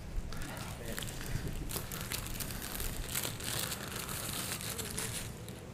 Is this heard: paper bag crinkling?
yes